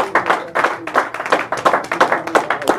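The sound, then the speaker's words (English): A crowd claps hands together in praise and worship of the Lord at a church service, in a steady, lively rhythm, the many overlapping claps forming a dense burst of sound with no talking. “Give the Lord a hand clap of praise and worship Him.”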